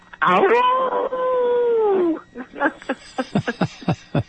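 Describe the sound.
A person lets out a long, drawn-out howl in imitation of a coyote, rising then sliding slowly downward for about two seconds, followed by a quick run of short, sharp yips.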